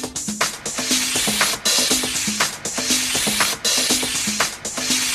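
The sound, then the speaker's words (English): High-pressure steam from a boiler blasts into a steam engine's cylinder, pushing the piston down and back up as a valve diverts it. A loud, steady roaring hiss is broken by rhythmic low pulses and brief dips that repeat roughly every half second, like an engine chugging. No voices. “High-pressure steam from the boiler blasts into the top of the cylinder to push the piston down.”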